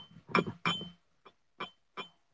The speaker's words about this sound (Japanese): これじゃ、マグカップもあるのよね、今、コーヒーの。ガラスのお水入れてるコップとね、マグカップがぶつかってる音。